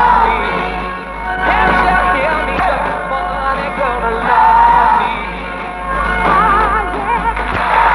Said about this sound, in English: No idea what that is. There's not enough of that to Shazam. Because it sounds like a live recording, maybe. Because you can hear the applause at the end. You can't hear enough lyrical content to Google it.